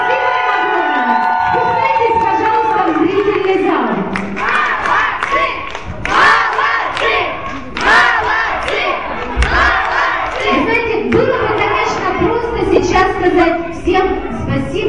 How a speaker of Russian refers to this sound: Аплодисменты, ребята!